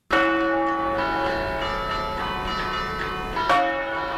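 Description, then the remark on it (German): The bells of Turin Cathedral in Turin, Italy, ring loudly and continuously over Piazza San Giovanni, overlapping strikes with rich sustained tones, a fresh stroke sounding near the end, echoing openly across the square. “Die Glocken des Turiner Doms beschallen die Piazza San Giovanni und Teatro Romano.”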